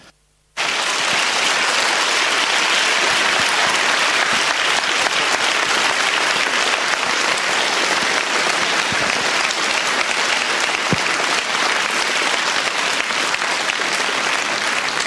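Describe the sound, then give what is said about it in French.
Sustained applause from a large audience fills a full hall in Saint-Maurice, a dense, steady wash of clapping that begins abruptly after a brief silence and continues loudly and evenly throughout. “ces applaudissements, Michael Lonsdale et père Nicolas Butet, vous disent à quel point la salle ici à Saint-Maurice vous accueille chaleureusement”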